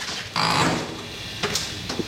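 A door aboard a hotel ship, by the engine room, creaks shut with a short, strained squeal lasting about a third of a second, followed by two quick, soft clunks as it settles into place.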